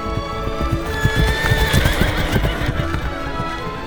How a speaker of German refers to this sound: Das Läppchen aber steckte die Königstochter in ihren Busen, setzte sich aufs Pferd und ritt nun mit der Kammerjungfer rasch von zu Hause fort.